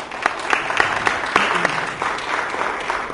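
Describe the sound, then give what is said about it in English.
Steady applause from an audience for two speakers before they take the floor, a dense patter of many hands clapping at an even, moderate loudness with a few sharper claps standing out, sustained throughout with no talking. “And again, let's have a round of applause for them for showing up and taking the time to be here.”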